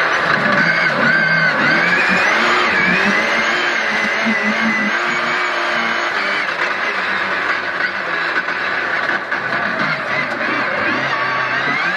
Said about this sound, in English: It was Rallycross day for you. That was the first time you've ever been in a Rallycross car.